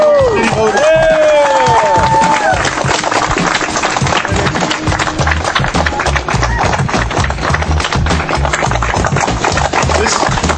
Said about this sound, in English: Applause, folks, is for all of us. This is for all of us.